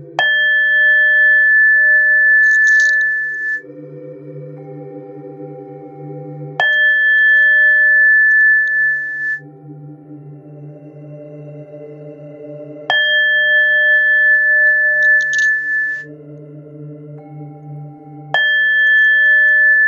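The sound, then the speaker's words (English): A meditation bowl is struck four times at slow, even intervals during a sacral chakra meditation, each chime ringing out with a bright sustained tone that fades over a low, steady humming drone. No voices. “And now with each chime of the ball, the sacral chakra will open further.”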